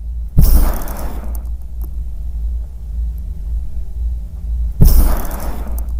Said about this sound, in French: c'est le bruit de l'eau qui sort d'une coquille Saint-Jacques